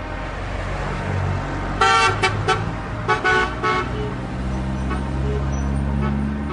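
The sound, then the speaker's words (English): Heavy trucks rumble steadily through the town of La Arroya from the surrounding hills, carrying ores and metal concentrates from nearby mines for processing, a deep continuous engine drone, broken by several short horn honks in quick bursts partway through. No one speaks. “Trucks rumble through town from the surrounding hills, bringing ores and metal concentrates from nearby mines for processing.”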